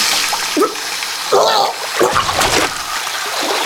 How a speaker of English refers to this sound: turned on the cold water tap, and put her hands into it.